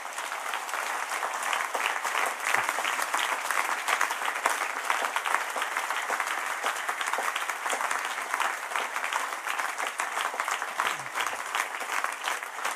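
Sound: applause in parliament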